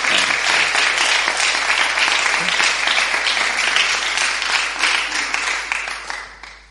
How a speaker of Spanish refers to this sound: Un aplauso, vamos a animarlo. Gracias.